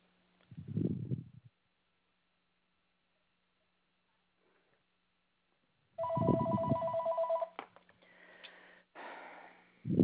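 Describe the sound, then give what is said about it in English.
Another telephone rings during a phone call to cancel a service, in one short burst with a bright, warbling electronic tone, following a dull low thump and a stretch of silence. The sound is thin and tinny, with no voices. “I've got to answer my other phone.”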